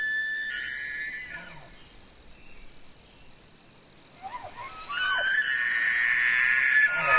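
Manitoba elk bug a mating call in a park. A shrill, whistling call fades out, then after a quiet pause a second bugle rises and holds a long, piercing note through the end, with no talking.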